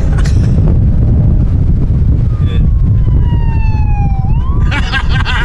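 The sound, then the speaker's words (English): A police car siren wails, its tone sliding slowly downward and then swooping back up, over a heavy, steady rumble of road and wind noise. “I hear a lap siren.”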